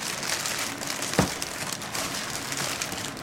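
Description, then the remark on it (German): Plastic evidence bags holding clothing, including a pullover, scarf, shirt and jacket, crinkle and rustle as they are pulled one by one from a cardboard box, a steady papery texture with one soft thump partway through. No one speaks. “Nach und nach zieht Köhler die Tüten aus dem Karton.”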